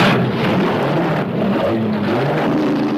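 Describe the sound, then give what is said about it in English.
A black Mustang muscle car engine revs loudly, its throaty rumble rising and falling steadily without a break. No voices are heard. “Instead of a white stallion, he rides a black Mustang.”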